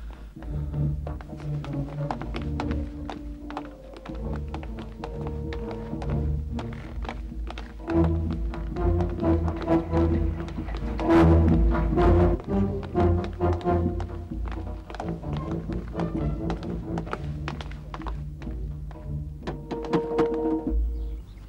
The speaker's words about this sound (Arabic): الباب يطرق، ألا تسمعين؟